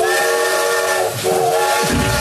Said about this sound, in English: I love how you can now use that train sound effect after using it for the hype train a couple weeks ago. It really is a utilitarian sound effect,